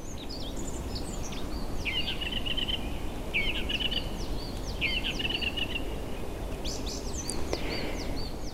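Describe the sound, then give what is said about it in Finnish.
A thrush sings in a forest in mid-April, delivering several short, repeated phrases, with a steady rushing background of wind or ambient noise underneath. “Nyt on huhtikuun puoliväli juuri ohitettu ja viime öinä rastaita on alkanut saapua metsiimme.”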